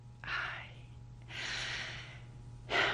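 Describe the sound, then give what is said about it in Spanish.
Audible breaths through the nose as someone smells the night air in a patio: a short sniff, then a long, deep drawn-in inhale, and another sharp breath at the end, with no talking. “Y salí al patio a respirar el aire de la noche.”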